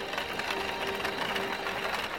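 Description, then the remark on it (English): A mahogany wagon trundles over a dusty road through a valley as night falls, a steady, dense rattling clatter that never lets up, with a faint hum running beneath it and no voices. “It was the sound of a mahogany wagon trundling across the dusty road.”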